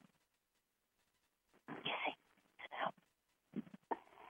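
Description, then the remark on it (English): A dog named Gizmo whimpers in three short, whiny bursts separated by brief pauses, moderately loud, as its owner tries to get it to sit down, with no one talking over it. “I'm trying to get my dog to sit down.”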